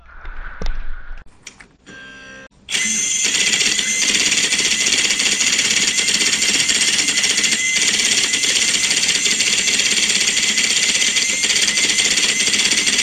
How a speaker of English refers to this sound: Now we're going to have a daisy wheel printer. This is a pretty fast one that I found on YouTube. Some of these come from YouTube. Here we go.